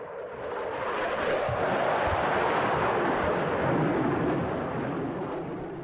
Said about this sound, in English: Suddenly, the sound of a jet fighter approaching. We struggle to see it through the leaves above as it screams overhead.